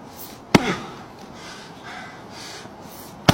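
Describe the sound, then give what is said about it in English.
An axe chops into a wooden stump twice, with two sharp, loud cracking strikes about three seconds apart and heavy breathing and huffing in between. “Just listen to the deeply sexual things he says while chopping one of the large number of stumps that he seems to have lying around.”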